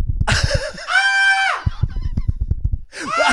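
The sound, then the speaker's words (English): A voice imitates an excited scream: loud, high-pitched squealing bursts, one held shrill note in the middle, over a rapid series of low thumps like hands pounding. “I start screaming. Because it hits me.”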